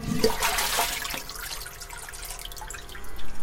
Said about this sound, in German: So, ich habe jetzt einen Behälter voll Wachs gefüllt und gehe jetzt an die Form und fülle die Form über einen Trichter mit Röhrchen ganz langsam von unten nach oben, dass möglichst wenig Luftblase entstehen.